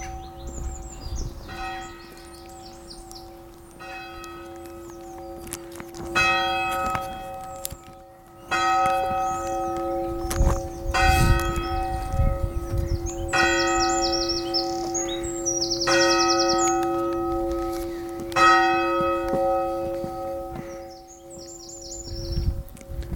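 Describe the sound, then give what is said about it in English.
A church bell strikes 12 o'clock midday in slow, steady strikes, each ringing tone hanging on and overlapping the next, while small birds chirp and tweet brightly throughout in the churchyard. No one speaks. “That's 12 o'clock midday.”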